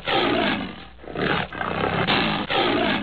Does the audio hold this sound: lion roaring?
yes